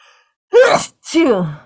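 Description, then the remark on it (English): A single sneeze in two loud bursts: a sharp voiced intake followed by a breathy, falling release. No one speaks. “Bless you.”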